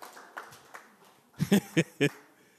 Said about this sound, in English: You're supposed to applaud right there. That's your applaud line.